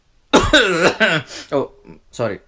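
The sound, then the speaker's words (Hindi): A voice imitates the coughing of a 60-65-year-old man sweeping a courtyard with a broom at around 6 o'clock: a rough series of about five hoarse, voiced coughs in uneven bursts, the later ones shorter and weaker. “खांसते झाड़ू लगा रहा है।”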